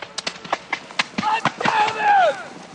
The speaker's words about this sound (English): That unintelligible shout comes from Dennis Quaid, playing Sam Houston, who streaks ahead on his white horse to lead the charge for Texas independence and a hoped-for box office smash.